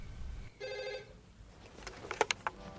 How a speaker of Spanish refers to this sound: Suena el teléfono en el cuarto del hotel de Tony.